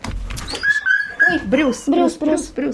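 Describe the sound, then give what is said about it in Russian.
A greyhound whines in a thin, sustained high tone, then breaks into a run of loud, wavering squeals and yelps, repeated in quick bursts. The dog is squealing from fear, not from pain. “То есть, когда они очень сильно пищат, но на самом деле им не больно.”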